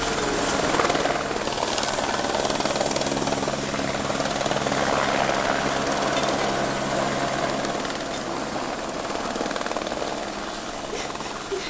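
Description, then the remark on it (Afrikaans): A helicopter taking a sick child to a children's hospital drones steadily overhead, its rotor making a continuous rumbling whir with a high whine on top, holding loud and even for the whole stretch with no voices. “En die choppe het haar kinderhospitaal toegevat.”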